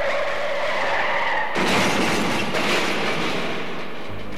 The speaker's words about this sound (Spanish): Al frenar bruscamente un auto Jaguar, produce un choque con un Mercedes y otro Jaguar, saliendo este último disparado contra la multitud.